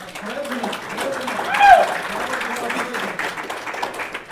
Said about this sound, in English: And first thing I want to say is I'd like to hear everybody give this board a round of applause for the amazing turnout they had for their candidate forum.